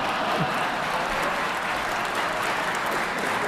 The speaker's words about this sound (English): We should get some applause there, shouldn't we